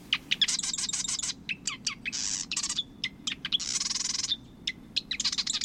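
A male marsh wren sings its rapid, buzzy sewing-machine song in a marsh, bursts of mechanical chattering trills repeating in quick succession, loud with no talking.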